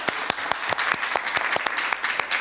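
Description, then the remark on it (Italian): Steady applause from an audience in Italy welcoming someone after an official act is signed, dense overlapping claps with a few sharper individual hand claps standing out in a quick, uneven rhythm, moderately loud throughout with no voices. “Tanto un applauso, benvenuto.”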